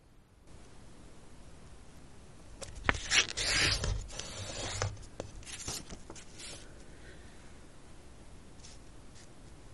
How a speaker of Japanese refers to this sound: 最終的にはこのようなカードが完成します。まず色画用紙を半分に折ります。